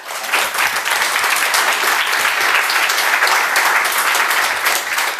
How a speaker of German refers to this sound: Applaus dafür bitte.